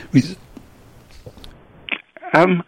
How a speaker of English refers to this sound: Resulting in life extension, as I had to cough there, as well as better health.